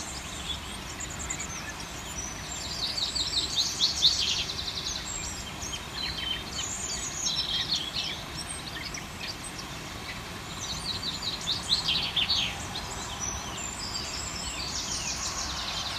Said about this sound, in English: And thanks to Geraldine Mullins in Bantry, because Geraldine was out recording bird song this morning. And this is from 11:15, Bantry time.